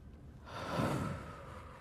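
human body sound, deep breathing exercise

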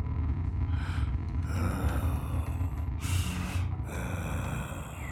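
sound effect, heavy breathing

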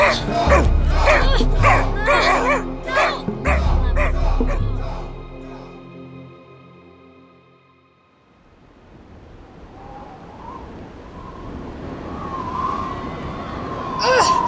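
animal, dog barking and whimpering

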